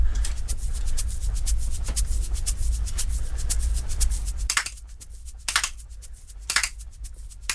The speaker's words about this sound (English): Check this out. Watch this. This is a salt. This is a salt packet. Here we go.